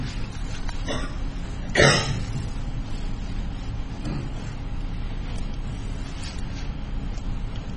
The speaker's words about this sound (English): And I hear you coughing. If you have some trouble, why, take your time, have some water, whatever you need.